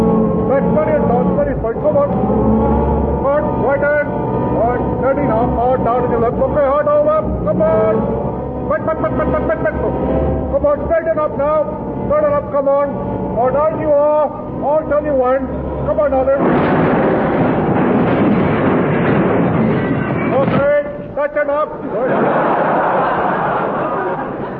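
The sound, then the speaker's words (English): A lorry engine rumbles and strains as it reverses, voices mixed in, then a loud, harsh crash of impact against a wall rings out and tumbles on for several seconds. “Come on, you backed me straight to that wall over there.”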